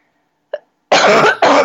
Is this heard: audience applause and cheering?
no